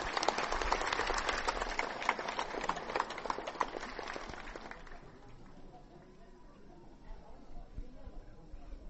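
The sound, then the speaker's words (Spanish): An audience breaks into a dense burst of applause welcoming a performer about to recite a poem, steady clapping for about five seconds before it thins out and fades to a quiet background murmur. “Lo recibamos con un fuerte aplauso, compañeros y compañeras.”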